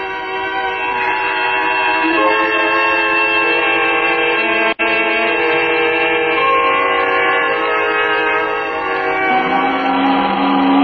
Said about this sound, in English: The whistle! The whistle! Time to go home. 6 o'clock. I slept right through and then the whistle woke me up. It woke me up.